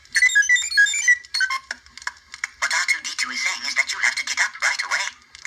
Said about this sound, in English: The third night we would fragment your sleep. And the way we did that was we had these little C-3PO alarms that made this unbelievably grating sound.